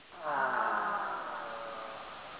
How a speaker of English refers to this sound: let us take a deep breath in through our nose and drop the jaw and let this head out with the sound of awe.